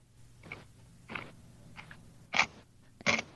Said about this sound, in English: I had my microphone on mute because I was crunching. Just do it. Just do it. Just crunch. Wasn't ready. Do it. Give us the crunch. You want the crunch? You've wanted to do this. Here's your crunch. I don't know how crunchy it's going to be